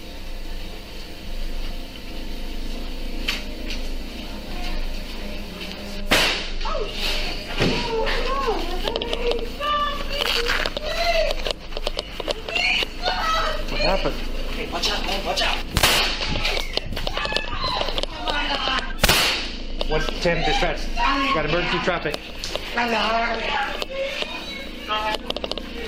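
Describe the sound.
Several sharp, loud gunshots crack out at irregular intervals, a single shot followed later by more, amid people talking and a noisy, crowded background.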